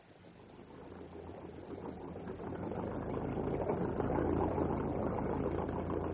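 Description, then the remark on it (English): The engine of a moored boat, started to get underway, turns over and settles into a steady, low idling rumble, growing gradually louder and fuller before holding a constant throb. No one speaks. “I'll get to the engine.”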